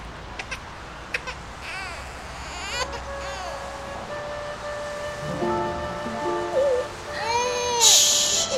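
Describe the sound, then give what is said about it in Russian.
A baby boy cries in wavering, high-pitched wails that start a few seconds in and keep rising and falling over a steady low background hiss, with a few soft clicks near the start. “Тише, тише, маленький.”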